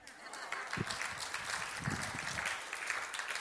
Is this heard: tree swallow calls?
no